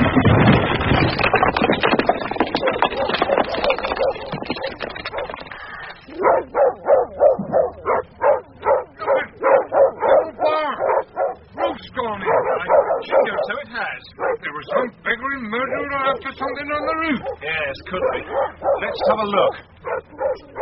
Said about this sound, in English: Some dogs, all right. Now, quiet now. Patch! Quiet, Darky! Quiet, I say!